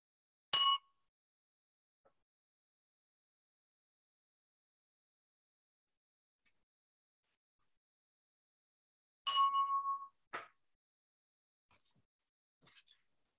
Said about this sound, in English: Now we'll have a moment of silent meditation, beginning and ending with a chime.